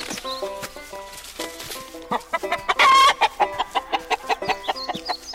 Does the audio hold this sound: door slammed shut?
no